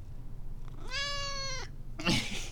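A single drawn-out cat meow at a fairly steady pitch, clear over a low background hum, followed by a short burst of rustling noise.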